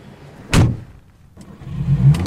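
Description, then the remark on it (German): A car door thuds shut, then after a brief pause a car engine starts and settles into a low, steady rumble, with no one speaking. “Na komm, wir fahren eine Runde.”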